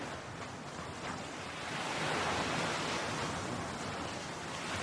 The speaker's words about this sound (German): Du hörst das sanfte Rauschen der Wellen, während sie über den Strand und deine Füße sanft hinüberrollen. Und du siehst so, wie sie sich langsam wieder zurückziehen in das Meer.